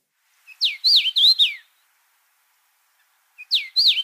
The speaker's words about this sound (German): gibt es bei diesem Vogel, ich habe es nicht gesagt, wie er heißt, den Spruch, hey, it's nice to meet you